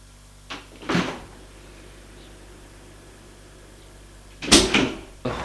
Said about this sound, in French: Il ouvre la porte de l'allée.